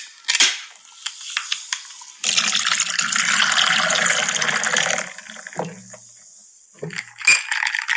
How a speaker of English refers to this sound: Our idea for our intro music was going to be cracking a can of beer and then pouring it into a glass. And we tried that and everybody complained and said it sounded like we're urinating, which I thought I'd just try and see if I could play now.